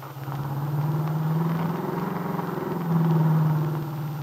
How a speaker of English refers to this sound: Now, with Del at the wheel of her car, the nightclub owner and the young entertainer turn onto the main highway which leads to Chicago.